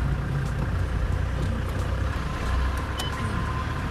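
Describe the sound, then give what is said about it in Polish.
A car drives along the streets of the town of Koronowo with a steady low engine rumble and road noise, a continuous even drone with faint higher clicks and hiss, no voices. “No i tak sobie jedziemy po tym Koronowie, kręcimy się tutaj.”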